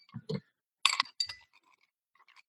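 Ice cubes clink and rattle in a glass for a drink on ice in a few quick, bright bursts, followed by faint scattered tinkles as they settle.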